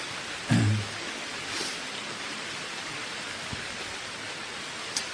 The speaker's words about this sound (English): It's raining, it's pouring, the old man is snoring.